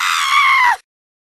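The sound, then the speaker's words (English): A single loud, high-pitched scream rings out for under a second, shrill and strained with a slight downward bend, then cuts off abruptly into silence. “What's with all the girly yelling?”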